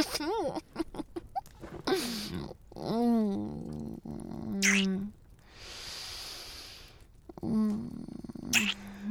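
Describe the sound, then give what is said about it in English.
A male puppy gives several short, high whimpers and yelps in irregular bursts, with soft snuffling and breathy noise between the cries. “Puppy.”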